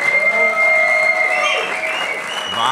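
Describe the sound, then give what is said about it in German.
A live audience bursts into sustained applause mixed with cheering and whooping, a loud, dense wash of clapping that holds steady throughout with shouted voices rising above it. “Ihr könnt euch ganz kurz mal bemerkbar machen. Sagt einfach mal kurz Hallo in die Kamera oder applaudiert, damit man euch ein bisschen mitbekommt.”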